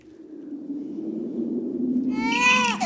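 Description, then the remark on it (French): A baby in a basket in a forest cries in the 1998 French animated Christmas film L'enfant au grelot by Jacques-Rémy Girard, starting as a low, drawn-out whimper that swells near the end into a loud, high-pitched wail, with no one talking. “Qu'est-ce que c'est que ça? Bon sang, mais c'est un gosse, un bébé.”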